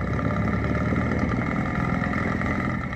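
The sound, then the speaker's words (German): A motorboat engine recorded underwater: a steady, dense droning hum with a faint rhythmic churn, loud and continuous throughout with no pauses and no voices. “Die Ozeane sind laut geworden. Motorboote, Containerschiffe, Pfeiler, die für Ölförderanlagen in den Grund getrieben werden.”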